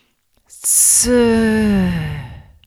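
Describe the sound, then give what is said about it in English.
A loud hissing 's' breath, made as the lung sound of a breathing exercise, turns after a moment into a long, voiced sighing exhale, slowly falling in pitch and fading out. No other sounds. “Breathing in for the lungs now. And the sound is s.”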